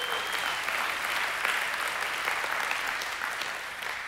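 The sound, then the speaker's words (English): A crowd applauds steadily, a dense wash of many hands clapping at an even loudness for several seconds, tapering slightly at the end, with no voices. “I will tell Allison that you applauded her endurance.”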